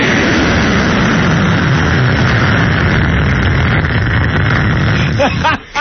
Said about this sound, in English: While plane goes by.